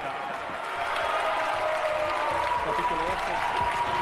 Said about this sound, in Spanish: Se cierra la votación. No sé por qué no me anda esto. 117 votos afirmativos, 123 negativos, 2 abstenciones. La gente aplaude, la gente festeja. La resulta gente se para. Negativo. La gente festeja.